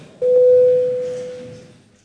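A single steady electronic tone, the bell signal of a parliament chamber called just before a vote, sounds clearly for about a second and a half, starting abruptly and fading slowly away, over faint murmur in the chamber.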